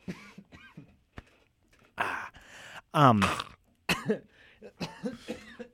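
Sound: coughing fit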